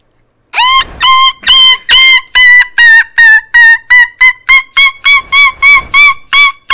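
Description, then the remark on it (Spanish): A person's voice mimics a gull, letting out a loud series of about fifteen harsh, nasal squawks that start long and shorten, quickening into a rapid, evenly spaced laughing cadence. “Pero tú sabes imitar a un animal. Sí, yo soy la gaviota.”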